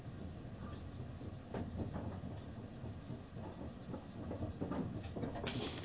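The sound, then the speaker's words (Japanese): A passenger train, the all-reserved-seat Kinugawa No. 5 on a Tobu Railway through service bound for Kinugawa Onsen, next stopping at Ikebukuro, rolls steadily along the rails, a continuous low rumble with intermittent clacks and rattles, heard from inside the carriage with no voices. “Ladies and gentlemen, welcome aboard the Kinugawa No. 5 bound for Kinugawa Onsen. All seats on this train are reserved.”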